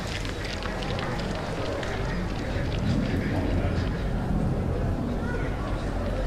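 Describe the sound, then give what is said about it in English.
Heavy, labored breathing with wet mouth noises from a scene of the film Rocky played without its music runs steadily throughout, dense and breathy, with a few low vocal murmurs in the middle but no clear words. “Instead, there's just heavy breathing and mouth noises.”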